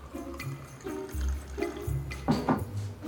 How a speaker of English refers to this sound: A heavily hungover Ray comes downstairs. He walks over to the kitchen counter and pours himself some coffee.